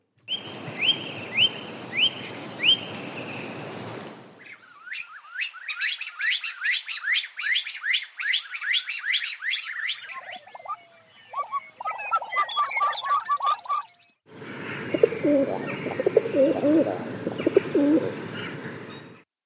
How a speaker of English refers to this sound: So there were four bird calls there. Who would like to open the batting? Who reckoned they knew at least some of them?